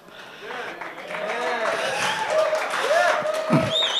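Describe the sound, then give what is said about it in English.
A church audience applauds the word of the Lord during a sermon, a steady, moderately loud clatter lasting about four seconds, while scattered voices call out over the clapping. “I'm going to have to get like applause signs or something, you folks.”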